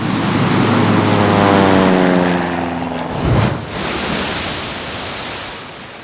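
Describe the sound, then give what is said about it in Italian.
A seaplane, hit by a violent gust of wind, plunges nose-first into blue ocean waves: a steady roar with a whining engine tone that sinks in pitch, then a heavy splash-like impact, followed by loud, continuous rushing water and surf noise. “Improvvisamente, una raffica di vento più violenta delle altre travolse l'idrovolante e lo fece precipitare a muso in giù tra le onde blu.”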